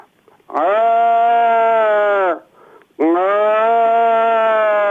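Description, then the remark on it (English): A man's voice imitates a calf answering its mother cow, two long, loud, nasal bleats, each held nearly two seconds with a short breath between them. “And the calf will answer and say, I'm over here, mother, like this.”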